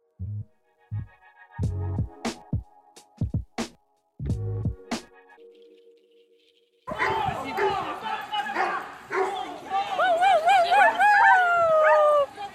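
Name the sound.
dogs barking and playing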